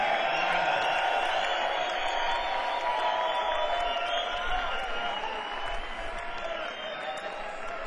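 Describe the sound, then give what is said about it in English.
A crowd screams and cheers for a guitarist being introduced, in a dense, steady roar that holds for about eight seconds, shrill voices blending into one continuous wash of noise with scattered whoops rising above it. “Give him a scream.”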